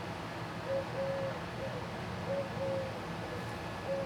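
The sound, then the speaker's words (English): A pigeon or dove coos softly in a loose, repeating pattern of low, hollow hoots, some short and some drawn out, set against a steady background hiss and rumble. “The pigeon likes it. Or is that a dove?”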